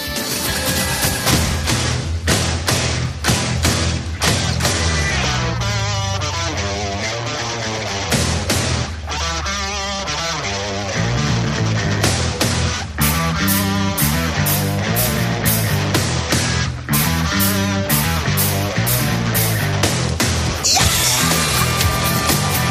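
Loud, dense rock music with hard-hitting drums, crashing cymbals and screamed vocals, driving steadily without a break for over twenty seconds.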